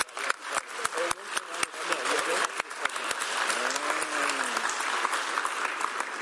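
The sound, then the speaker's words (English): An audience bursts into sustained applause for the translators, dense rapid clapping that stays steady for several seconds, with a few louder individual claps and faint voices mixed underneath. “So let us give them a big clap.”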